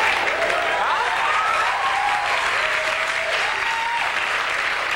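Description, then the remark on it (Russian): Dense, steady audience applause fills all five seconds, a continuous rush of many hands clapping at even loudness, with a faint wavering, voice-like tone drifting over it. “Хлопайте, я попробую спеть.”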